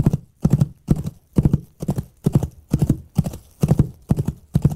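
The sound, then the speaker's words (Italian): Foley effect: coconut shells tied to the ends of two dumbbell-like handles wrapped in cloth knock in a steady galloping rhythm into a basin filled with earth, a string of hollow, dull clip-clops mimicking a horse's hooves. The pattern repeats evenly with no voices. “In questo caso, come abbiamo detto prima, erano due manubri con agli estremi legate delle noci di cocco che sbattevano in una bacinella riempita di terra, e questi manubri erano anche chiusi dentro un pezzo di stoffa.”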